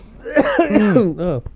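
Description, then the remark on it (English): A few voiced coughs brought on by laughing come in quick succession, loud and throaty with a strained, almost laugh-like tone, ending in a short final hack. “The laughter makes me cough.”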